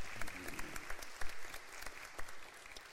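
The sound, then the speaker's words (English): An audience applauds steadily for a few seconds after a presentation at a council meeting, a dense patter of many hands clapping at a moderate, even volume with no voices over it. “Give them a round of applause, after all.”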